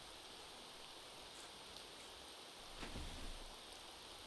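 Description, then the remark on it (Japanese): Rain falling steadily as a soft, even hiss, fairly faint, swelling slightly for a moment partway through, with no voices. “どう？雨に打たれる気分は悪くないでしょ。”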